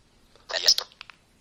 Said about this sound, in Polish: Teraz telefon wezmę do ręki, bo był na stole, powinno być lepiej jakoś słychać.